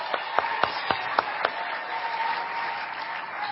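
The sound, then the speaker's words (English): Audience applause at the Reading School of the Arts, welcoming Carl as he comes up to speak, opens with a few sharp, evenly spaced claps that quickly blend into a steady, dense wash of crowd clapping at moderate volume, with no one speaking. “Let's all applaud Carl as he comes and shares with us.”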